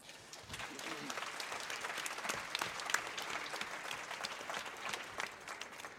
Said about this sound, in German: Ich nenne am Anfang nur ganz kurz die Namen und vielleicht haben Sie dann ja Lust auf einen kleinen Applaus.